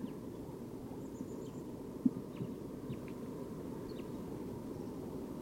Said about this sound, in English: It sounded like a flock of crossbills was here. And they are. There are five birds, five crossbills here. And they are up in the tree just above the road here at the behavior station.